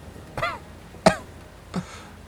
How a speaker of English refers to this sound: He coughed and vomited black blood.